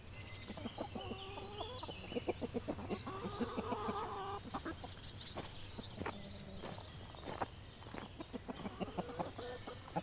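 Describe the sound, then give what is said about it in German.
Several chickens cluck and murmur in a steady, irregular patter as they scratch about in a private garden, with soft scratching and rustling underfoot against quiet outdoor background noise; no one speaks. “In einem Privatgarten scharren Hühner vor sich hin.”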